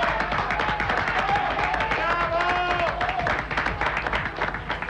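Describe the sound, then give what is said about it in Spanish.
Steady, dense applause greets the news that Domingo Cavallo is resigning: many hands clapping at once in a rapid, even patter, with a brief higher-pitched vocal cry or whoop rising over it midway. “Yo aplaudo.”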